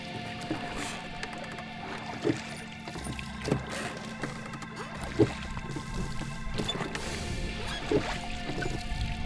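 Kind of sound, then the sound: vehicle, rowboat moving through water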